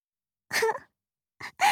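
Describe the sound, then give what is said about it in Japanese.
Three heavy, breathy pants: a longer gasping breath first, then a pause and two quicker ones in succession, with no talking. “はぁはぁして、犬みたいなんだけど。”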